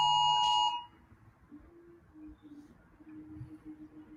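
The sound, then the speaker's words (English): A loud, sharp electronic alarm beep sounds for about half a second, then cuts off, leaving faint background noise with a low, intermittent tone underneath. “I have an alarm system coming in.”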